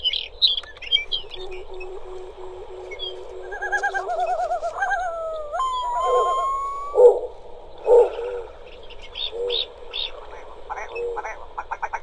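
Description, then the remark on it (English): A mix of Arctic tundra bird calls: a long-tailed duck's yodeling notes, a willow ptarmigan's rattling call and a snowy owl's low hoots, overlapping with chirps and the wailing call of a yellow-billed loon. “Hearing a long-tailed duck. We heard from a willow ptarmigan and a snowy owl and that call of the yellow-billed loon that we heard earlier.”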